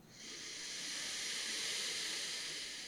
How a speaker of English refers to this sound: And if you like, you can take a really deep breath and directing that breath in toward the palms of your hands, in toward your heart space. Full inhale.